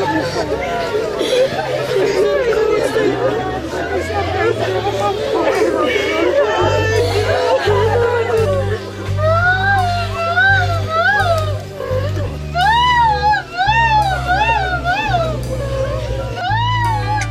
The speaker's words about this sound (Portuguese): A tristeza de familiares e de amigos se misturam ao choro da mãe.